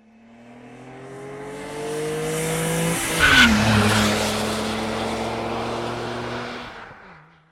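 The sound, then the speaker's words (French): Racing trucks at the 24 Hours of Le Mans truck race roar with a steady engine drone, then one skids hard around the midpoint with a sharp, loud tire squeal before the engines settle back and fade out. “Nous allons enchaîner avec les 24 heures du Mans camion.”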